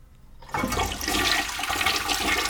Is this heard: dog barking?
no